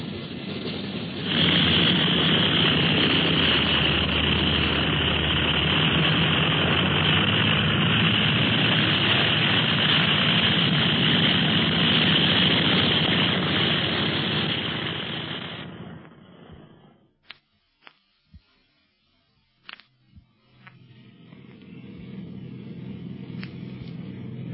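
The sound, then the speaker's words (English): Airplane engines, heard from inside the plane's cabin, roar loudly and steadily for about fifteen seconds, then drop away to a few sharp clicks before a softer, muffled engine hum returns in the background. “What a plane. You can hardly hear the motors back here in the cabin.”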